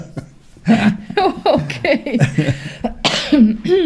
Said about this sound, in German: Ich traue mich nicht mehr zu husten hier.